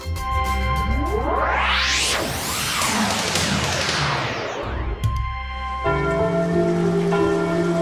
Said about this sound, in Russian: Ой, какой ливень! Хорошо, что зонтики взяли.